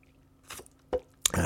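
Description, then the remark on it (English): Someone drinking water: three quick, wet mouth noises, sips and a soft gulp, spaced about half a second apart, fairly quiet against a low background hum, with no one talking. “And you know, I got my water, you know.”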